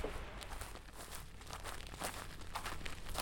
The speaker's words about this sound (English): The sounds of dry grass crunching beneath your feet sounds like static as you walk across the field.